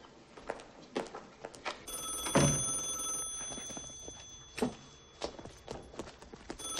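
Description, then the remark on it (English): A telephone rings once in a bright, trilling burst lasting over a second, set against scattered knocks and footstep-like clatter in the room. “Never, ever pick up the phone.”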